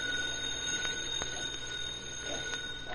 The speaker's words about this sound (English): It's for me. I've been expecting a phone call.